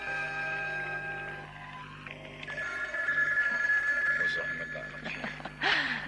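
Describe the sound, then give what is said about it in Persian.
A telephone bell rings in a steady, sustained electronic trill over a humming background, continuing for several seconds at moderate volume, with a brief louder clatter near the end. “تلفن زنگ زن.”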